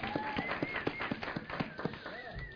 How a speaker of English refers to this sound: So, praise the Lord for that. So, yeah, go ahead and clap. That's great.